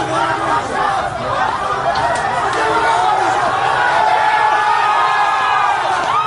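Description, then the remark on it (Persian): A large crowd at the scene of a shooting on Mohammad Ali Jinnah Street, Safa alley, near Basij base 117 Ashura, shouts and yells continuously, many overlapping voices rising in a loud, dense roar with occasional whoops standing out from the mass. “صدای فریاد جمعیت بالا می رود.”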